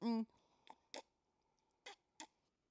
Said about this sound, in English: Let me take another sip.